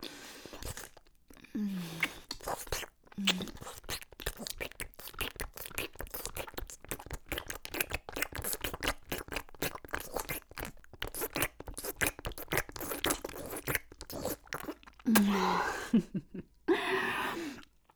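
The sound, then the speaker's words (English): Deep, hard, constricted swallows repeat amid a steady stream of wet, crackling mouth noises, broken by a few short throaty gulping sounds. No one speaks. “And then I'm going to swallow down hard all around you, constricted with deep hard swallows, repeatedly, like this.”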